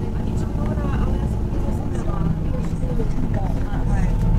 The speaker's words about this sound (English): I use the number 7 bus route from Hove station to Marina and to Brighton Town Centre. This is what it sounds like.